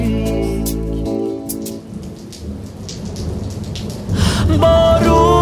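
Steady rain patters down under sustained musical tones, the downpour thickening into a fuller hiss near the end, with no voices present.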